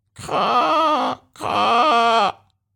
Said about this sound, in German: Und dann hören auch sie es. In der Ferne krächzen Krähen.